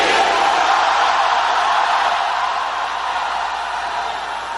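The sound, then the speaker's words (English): A large audience shouts a name together in one sustained, loud roar of many voices, holding steady for several seconds before tapering off slightly at the end. “Let me hear you shout that name.”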